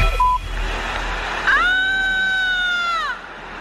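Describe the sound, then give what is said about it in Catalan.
A woman's loud, high-pitched scream on Carrer Valladolid in the Sants district of Barcelona at 22:03 on the night of Tuesday 23 August, recorded on a mobile phone. It rises sharply and holds a steady piercing tone for about a second and a half, then trails off over a low hum of background noise. “A les 22:03, al carrer Valladolid del barri de Sants de Barcelona, una dona va cridar molt fort. Procedim a sentir el crit.”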